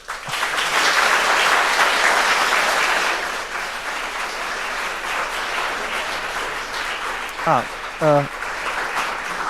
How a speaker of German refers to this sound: Thank you for your attention and coming in large numbers. Ja, Applaus.